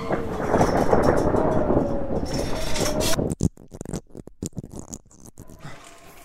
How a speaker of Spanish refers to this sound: Vale. Ya estoy dentro. Aquí estaré mejor. La tormenta ahí fuera es como...